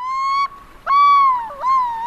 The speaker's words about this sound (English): And this one is called Through the Lens, the Yellow-billed Loon. And it's an amazing bird that is found off the coast of San Francisco. And it has a very distinctive call.